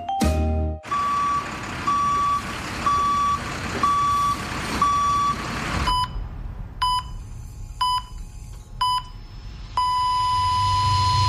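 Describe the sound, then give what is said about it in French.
A vehicle's reversing beeper on a construction site sounds in steady, evenly spaced beeps over a rumbling engine, then shifts to a different, more insistent beeping pattern partway through, all fairly loud. “Sur un chantier, chaque manœuvre de recul d'un véhicule comporte des risques.”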